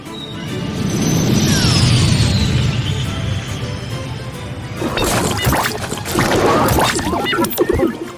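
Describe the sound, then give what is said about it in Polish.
A descending whistle and low rumble build for several seconds as a capsule falls from the sky, then a loud crash of impact with scattered clattering debris. “Hej, co to za kapsuła spada z nieba?”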